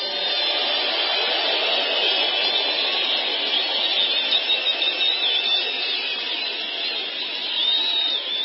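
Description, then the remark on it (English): A rally crowd applauds and cheers in a steady, dense roar that stays loud for the whole stretch, with a few shrill whistle-like squeals rising out of the noise near the end. “I love leaving the applause there as long as possible because you never get that from the mainstream media.”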